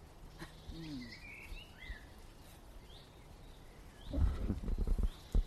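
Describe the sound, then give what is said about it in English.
A chaffinch gives short, high call notes, scattered singly among other faint birdsong, followed near the end by a burst of low, muffled rumbling. “Tweet is quite odd because that's actually a chaffinch calling. It's not singing.”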